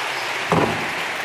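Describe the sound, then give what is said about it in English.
A crowd claps its hands together in a steady, dense wash of applause, given to the Lord for a message just delivered, with one slightly louder burst about halfway through and no voices. “Let's give a hand clap to the Lord for this message.”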